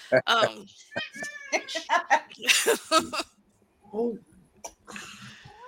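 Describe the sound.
A cat meows several times in quick succession, fairly loud, with drawn-out wavering cries, followed by quieter sounds and a brief burst of voices near the end.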